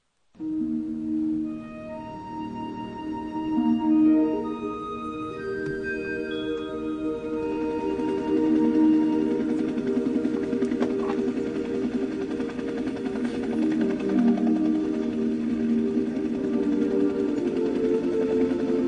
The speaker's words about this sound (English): who doesn't thrill to the sound of those blades. That familiar wop wop wop is the soundtrack of our war, the lullaby of our younger days.